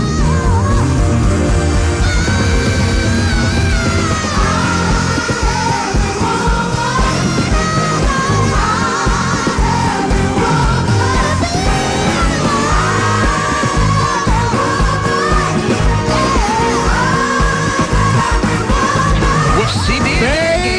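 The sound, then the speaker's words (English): A recorded singer belts and screams sustained high notes over a loud, dense band backing, the strained vocal wailing with vibrato throughout the full-volume music track. “But, baby, speaking of screaming,”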